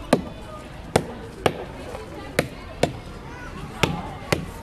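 A hammer strikes tree trunks twice each to test them, listened to for signs of defects, in sharp, hollow knocks, eight blows in loosely spaced pairs, each crack loud and brief over a faint background murmur.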